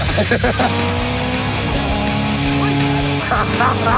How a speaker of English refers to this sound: You guys have made me so happy lately, so guess what? We're here to race some Ferraris.